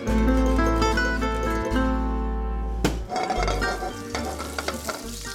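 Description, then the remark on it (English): A smacked garlic clove sizzles in a little extra virgin olive oil in a hot pan, a steady hiss with scattered crackles over a low, constant hum. A sharp clink of a utensil lands midway, and the frying grows more popping afterward. “Get a hot pan, a little bit of extra virgin olive oil.”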